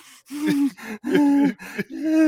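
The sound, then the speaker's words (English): A man imitates heavy, raspy breathing through his nose: about five loud huffs in a steady rhythm, each with a groaning, wheezy rasp, and no words spoken. “realised they had like a nasally rasp down my nose, so I was breathing like.”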